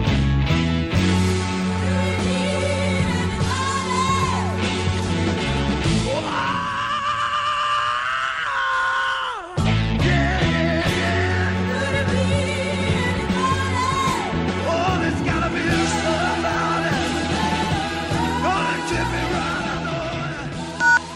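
rock singer screaming

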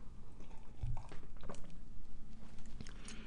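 sipping tea

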